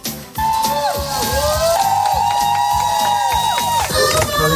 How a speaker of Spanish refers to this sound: Los aplausos, los gritos de emoción. Han estado más de 700 días retenidos por Hamás, muchos de ellos en túneles sin ver la luz del sol, y por fin han podido abrazar a sus familias.